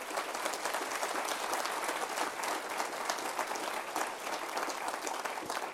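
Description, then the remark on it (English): An audience applauds steadily for blogger Anthony Watts and his work, dense overlapping claps forming a continuous, fairly loud wash that holds for several seconds without any talking. “Can we have a really good round of applause for Anthony and his wonderful work?”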